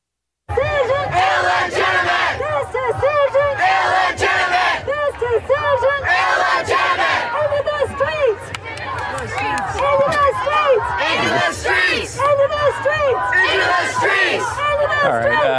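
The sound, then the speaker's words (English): A crowd of voices yells loudly into a microphone without pause, overlapping shouts rising and falling in bursts for about fifteen seconds. “You can't just put you're yelling into a little microphone like that and then putting it up to somebody else's face.”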